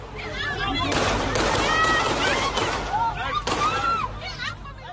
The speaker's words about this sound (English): God, it was terrifying to watch that, wasn't it? You know, to hear all those gunshots, to hear the tat-tat-tat, the sequence of shots, to hear the screams of people running.